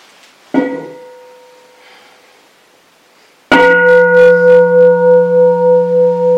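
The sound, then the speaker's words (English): A bell is struck twice by someone who has just woken up: a softer ring that fades, then a loud strike whose bright, pulsing tone hangs and wavers steadily to the end, with no voices. “Wakes up, hits the bell.”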